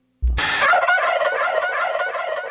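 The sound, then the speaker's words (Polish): A turkey gobbles loudly and continuously, a rapid, warbling burst of throaty calls that starts abruptly after a brief thump, with no talking, as part of Polish Radio's Turkolotek, the Great Turkey Lottery. “Wielka Indykowa Loteria.”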